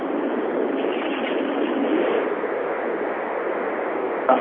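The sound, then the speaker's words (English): A steady, dense hiss of heavy rain from a rainstorm outside pours continuously for several seconds, loud, sounding slightly muffled as if picked up over a phone line, with no voices. “Got a rainstorm out here.”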